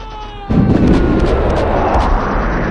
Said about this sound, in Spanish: El refugio cruje por todas sus junturas bajo la explosión de un obús. Afortunadamente era ligero.